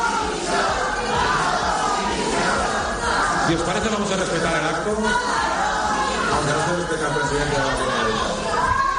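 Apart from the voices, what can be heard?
crowd shouting protest chants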